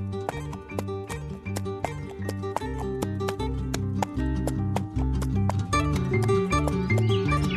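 Horse hooves clip-clop in a steady, even rhythm, crisp, as Prince Mihailo rides ceremonially on horseback into Belgrade in 1867, with a sustained musical backdrop droning underneath the whole time.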